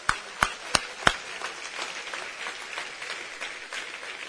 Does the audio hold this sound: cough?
no